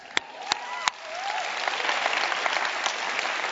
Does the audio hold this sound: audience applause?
yes